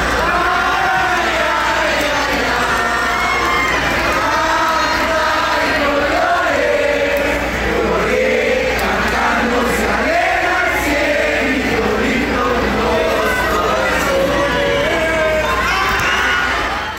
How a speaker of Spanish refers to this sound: Lo único que se escuchó durante todo el partido fue El Cielito Lindo, y vamos a escucharlo para que vean qué bonito.